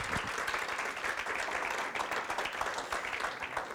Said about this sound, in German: Wir geben Ihre, dir einen riesengroßen Applaus. Danke vielmals.